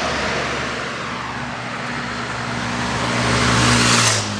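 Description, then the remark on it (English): A motor vehicle drives by, its steady low engine hum and broad road rush swelling gradually to a peak near the end before easing off. No one speaks. “I now see the car. I see the bus. I see the automobile.”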